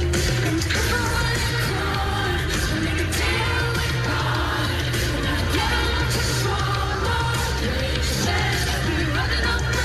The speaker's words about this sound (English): I mean, you can hear people singing along in the crowd, but yeah, that sounds really good.